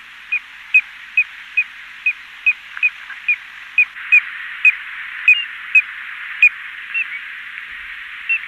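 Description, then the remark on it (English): A piping plover gives a long series of short, clear peeping whistles, evenly spaced about twice a second, moderately loud over a constant hiss of background noise, with no voices. “The piping part of the name of the piping plover refers to its melodious peeping whistle.”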